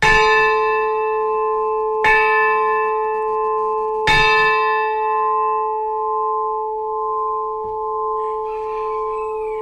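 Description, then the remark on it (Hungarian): A large church bell tolls three times at steady two-second intervals, each strike ringing out with a rich, long-sustaining hum that lingers between blows. No voices are heard. “utánunk marad, hogy több generációknál, utódunknál készítünk valamit, ami itt fog szólni nekik.”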